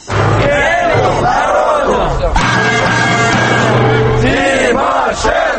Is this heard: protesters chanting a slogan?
yes